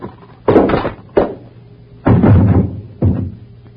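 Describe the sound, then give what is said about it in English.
A man is struck on the head with a paperweight and knocked out: a dull blow, followed by several more solid thuds and bumps spaced about a second apart, loud, with no voices. “What'd you hit him with? Just a paperweight.”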